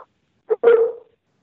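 A guest's dog barks twice in quick succession, a short clipped yap followed by a longer, drawn-out bark that trails off, heard alone with no talking.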